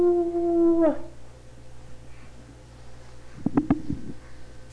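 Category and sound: vocal imitation, imitated wolf howl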